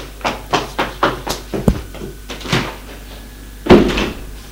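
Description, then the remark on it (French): A man pushes someone into a wardrobe, then shuts and locks its door with a key, a quick run of wooden clicks and rattles followed by one heavier thud as it shuts, with no voices. “L'homme ouvre une armoire et le pousse dedans. Ferme la porte à clé.”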